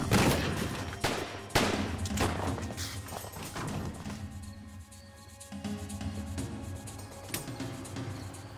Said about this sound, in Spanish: Cuando McCoy escuchó al FBI, tomó su arma y disparó.